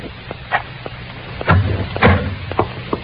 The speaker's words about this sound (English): Now open the door, Ruth. Hurry.